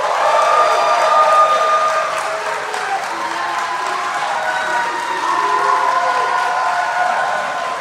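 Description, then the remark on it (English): A show audience applauds steadily for several seconds for the co-host, a dense wash of clapping mixed with some cheering and whoops, staying loud and even throughout. “Hey, please give a big round of applause for my co-host, my good bud,”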